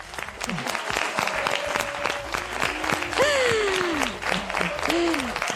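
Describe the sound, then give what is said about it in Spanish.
Steady, dense applause fills the whole stretch, with a few whoops and a sliding shout rising over the clapping from the crowd, applauding the secondary school IES Profesor Julio Pérez from Rivas, Madrid, after a score recount gives it three points. “¡Y este aplauso!”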